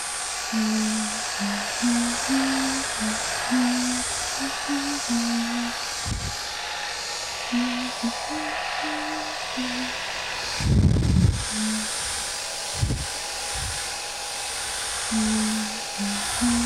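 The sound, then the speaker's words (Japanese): A hair dryer blows steadily, drying hair as a finishing step after towelling, a constant airy rush with a thin motor whine running the whole time, while a faint low voice hums underneath and a few soft bumps occur. “ドライヤーだよー。しっかり乾かさないと風邪ひいちゃうからな。”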